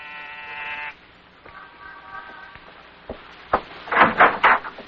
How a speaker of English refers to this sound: On the afternoon of your arrival in New York, you walk down the corridor of an apartment building in the East 70s, pause, and press a buzzer.